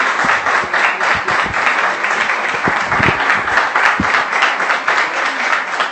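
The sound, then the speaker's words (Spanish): Sustained applause from an audience in an assembly chamber, a dense, steady wash of many hands clapping at once, loud and even throughout with no voices standing out. “Si us plau, si podem continuar, els agraeixo molt els aplaudiments.”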